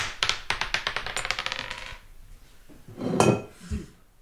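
A die is thrown and clatters and rattles across a hard surface in a quick burst of sharp taps that slow and settle, followed by a softer thump or two a moment later; it lands on three.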